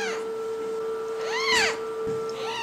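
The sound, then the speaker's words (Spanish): A serval's high, wavering cat calls rise and fall in pitch, with one long, loud arching cry in the middle and shorter ones at the start and end, over a steady electrical hum. “El nombre del Cerval se deriva de una palabra portuguesa que significa lobo ciervo.”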